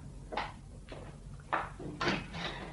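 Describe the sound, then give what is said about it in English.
A door is opened and shut, giving a series of about five short, muffled wooden clunks and thumps spread over a few seconds, with no one speaking. “Oh, go through that door, will you?”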